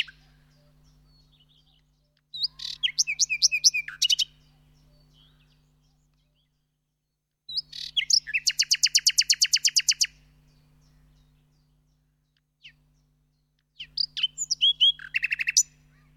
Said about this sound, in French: Peut-être qu'on va s'écouter un petit chant là, un petit chant de rossignol.